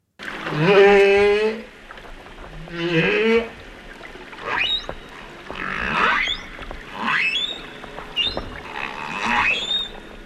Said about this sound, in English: A chorus of humpback whale sounds captured by underwater microphones off the New South Wales south coast is giving researchers a brand new understanding of whale migration patterns.